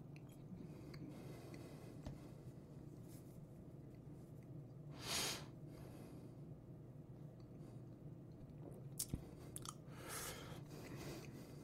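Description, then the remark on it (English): Faint mouth sounds: a soft slurp as neat whisky, with no water or ice, is sipped, then quiet wet swishing and a few small clicks as it's swirled around the mouth. No one speaks. “So we'll take our first sip.”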